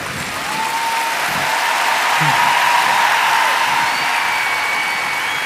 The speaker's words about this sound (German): Boah, das hat so Spaß gemacht, wirklich. Ey, Applaus für diese unfassbar tolle Truppe.